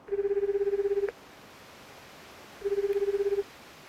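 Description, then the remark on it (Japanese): A mobile phone ringback tone after pressing the call button on a number stored in the phone book, two burbling rings about a second long separated by a pause of silence, steady and moderately loud with no voices. “電話帳に登録しておいた女性のその電話番号を引っ張り出して通話ボタンを押した。”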